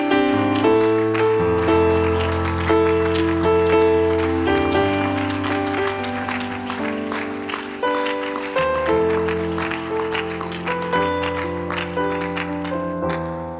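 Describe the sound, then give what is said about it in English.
An audience gives a hand clap of praise, clapping steadily for over ten seconds, a dense patter of many hands over sustained, loud keyboard chords that keep playing underneath. “Could you give Him a hand clap of praise?”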